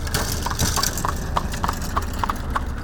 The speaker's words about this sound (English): We're standing on the side of a county road that has a long line of large divots spanning the entire block. And when a car or buggy goes over that broken pavement, it sounds just as bad as it feels.